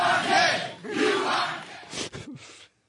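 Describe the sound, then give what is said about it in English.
A Jerry Springer show studio audience chants loudly in unison at the men on stage, rhythmic rising-and-falling shouts from many voices repeating the short phrase "you are gay", ending in a few scattered yells before cutting off. “Springer crowd, isn't it?”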